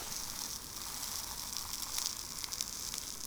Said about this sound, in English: The happy little families cheer you on as you burn ants. Listen to their guts pop.